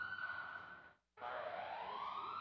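A building fire alarm blares a loud, steady electronic tone, cuts out for a split second, then resumes with a slowly rising pitch. No one speaks.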